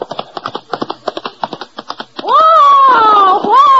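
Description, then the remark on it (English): Rapid, rhythmic horse hoofbeats clip-clop for about two seconds as Lulu Bell comes riding out of the gully, then give way to a loud, drawn-out wavering cry that holds to the end. “As the scene opens, Lulu Bell comes riding out of the gully.”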